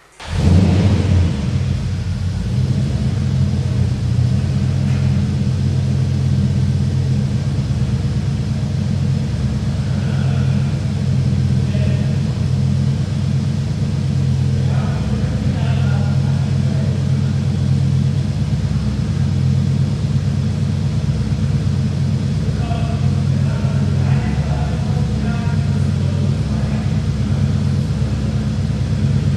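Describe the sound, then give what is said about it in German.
A big 5-litre V8 car engine, based on the old Rover 3.9-litre engine, rumbles steadily and loudly, a deep throbbing idle that holds for the whole stretch with faint mechanical ticks above it and no one speaking. “Aber der Motor, muss man sagen, ist ja ein 5 Liter V8, der basiert auf dem alten 3.9er Motor von Rover.”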